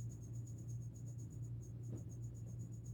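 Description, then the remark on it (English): A single cricket chirps in a steady, rapid pulsing rhythm, faint, from the other side of a studio, over a constant low electrical hum. “Listen to that cricket in the other side of the freaking studio.”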